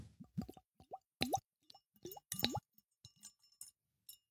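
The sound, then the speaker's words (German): A drink being poured into a glass, which sinks as it is poured, coming out in uneven gurgling glugs whose pitch sweeps upward, with brief bubbly pops and pauses between them. No voices. “Das Glas sinkt beim Einschenken.”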